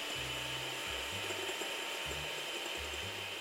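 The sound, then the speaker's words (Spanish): An electric mixer beating egg whites to stiff peaks whirs steadily for a few seconds, a bright buzzing motor hiss over a low droning tone that shifts and dips in short uneven steps as it beats. “Enchufa la batidora con cuidado y empieza a batir las claras hasta llegar al punto negro.”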